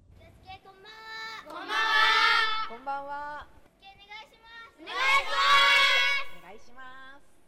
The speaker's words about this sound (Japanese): 大きな声、そう、この声がけが練習にはとっても大事なようなのです。終始声を出すことを監督は指導していました。